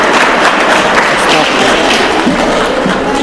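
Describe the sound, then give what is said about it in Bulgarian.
An audience applauds loudly and steadily for Lilyana Pavlova, Minister of Regional Development and Public Works, as she is called up to speak. It is a dense wash of many hands clapping that holds without letting up for a few seconds. “Искам вашите силни аплодисменти за госпожа Лиляна Павлова, министър на регионалното развитие и благоустройството, която ще отправи някои топли думи към всички нас.”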